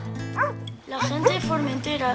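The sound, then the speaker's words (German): Dogs guarding a family farm bark in a quick series of short yaps while being petted, with a voice speaking around them; the barks come in bursts across the couple of seconds. “Und deshalb spreche ich mit euch lieber Spanisch, sagt er, während er die Hunde streichelt, die den Bauernhof der Familie bewachen.”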